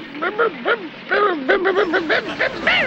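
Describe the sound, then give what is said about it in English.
A voice imitates a dog barking with a quick, uneven run of short, high yapping barks, moderately loud, nearly continuous over a few seconds. “Give me a bark.”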